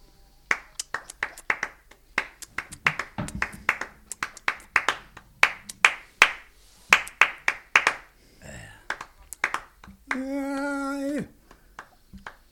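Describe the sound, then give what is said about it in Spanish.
Crisp flamenco palmas by one person clapping alone: a long run of sharp, dry hand claps in a quick, syncopated bulería rhythm, some accents louder than others, ending with a brief sustained sung note. “No toca las palmas, me voy a hacer yo solo las palmas.”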